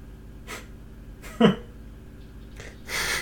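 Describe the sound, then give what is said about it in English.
Heavy, ragged breathing of a woman trying to hide: a series of airy inhales and exhales with one louder, voiced gasp partway through and a long rushing breath at the end, with no talking. “She is breathing really hard for a person that's trying to hide.”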